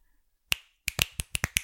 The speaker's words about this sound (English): Oh, damn. That is really loud. Look at this. Look how big your waves get, babe. I told you I can snap really loud.